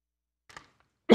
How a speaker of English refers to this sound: Oh, sorry, I coughed in your ear. I love coffee too much to not drink it in the morning, and then I'm clearing my throat in the first service the whole time, always.